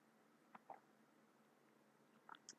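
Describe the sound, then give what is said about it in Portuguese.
Faint sipping and swallowing sounds from a drink of water: a couple of small wet slurps near the start, then a few more quick gulps at the end, over quiet room tone. “Vou até beber um golinho d'água.”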